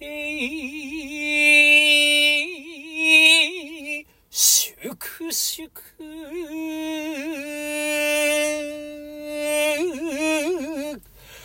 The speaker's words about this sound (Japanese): 詩吟といえばこれというふうにもう一番有名な吟で、僕もよく実践というか詩吟チャンネルでこれはこういうふうに吟じるんですよって使うときは、まあ大抵川中島になってるんですけれども、改めてですねこれをちゃんと吟じたいなと思います。逆に緊張しますね。では吟じます。